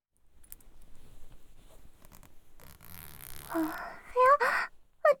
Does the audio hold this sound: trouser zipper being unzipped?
yes